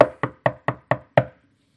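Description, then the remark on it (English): Six sharp knocks rap on a wooden door in a steady, evenly spaced rhythm, fairly loud, each one decaying quickly before silence follows. “Knock.”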